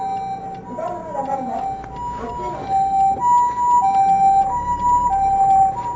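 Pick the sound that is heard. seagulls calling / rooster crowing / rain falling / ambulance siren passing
ambulance siren passing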